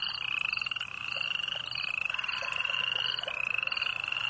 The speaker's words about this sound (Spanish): Ahí se puso a oír los ruidos de la noche. El canto de las ranas y de los grillos.